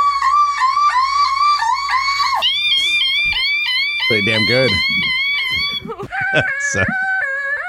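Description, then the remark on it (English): Women's voices mimic a car alarm for the car alarm challenge, with loud, high-pitched warbling tones that jump between pitches in repeating siren-like patterns. Brief bursts of voiced sound and a short spoken comment break in partway through. “Ladies that are doing the car alarm challenge.”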